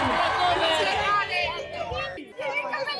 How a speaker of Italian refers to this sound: Tifosi scatenati attorno al loro giovane campione. E allora a Monza è già Kimi mania. Un applauso a Kimi Antonelli!